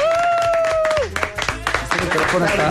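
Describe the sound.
A sustained, gliding tone fades out after about a second, then a crowd breaks into applause: dense, crackling clapping that builds and stays fairly loud to the end, with some voices mixed in.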